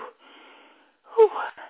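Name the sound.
heavy panting breaths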